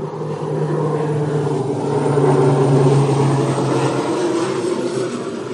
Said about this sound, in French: Et ça, tu disais, c'est le Bourget, c'est que des avions privés. Ouais. Putain, mais c'est ouf le nombre de trucs. Des Falcons et des privés qui tournent.